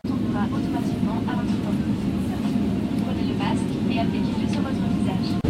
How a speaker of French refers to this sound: Et hop, on décolle.